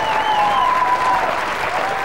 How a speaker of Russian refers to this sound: Павел Снежок Воля, ваши бурные аплодисменты.